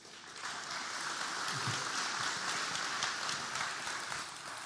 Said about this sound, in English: Are you clapping hands after what I'm going to say to you? You're clapping hands. Okay.